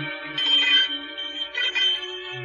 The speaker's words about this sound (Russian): Звонит.